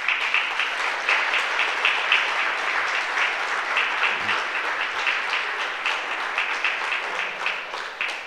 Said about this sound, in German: Und keiner kann sich vorstellen, wie viel Arbeit so etwas macht. Mit aller Logistik, mit allem Drum und Dran. Und ich denke, das hat einen kräftigen Applaus verdient.